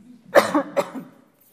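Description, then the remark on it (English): A couple of harsh coughs in quick succession, loud and raspy, followed by a brief throat-clearing rumble before the sound fades to quiet. “Let me cough real good.”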